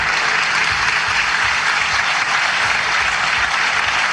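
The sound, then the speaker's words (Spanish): Parliamentarians of the Constitutional Assembly applaud continuously in a dense, sustained wash of clapping, loud and steady throughout, as they stand in an ovation for the words of Nicolás Maduro Jr., with no voices rising above it. “Con una ovación, los parlamentarios de la Asamblea Constitucional se ponen de pie, además, para aplaudir las palabras de Nicolás Maduro Jr.”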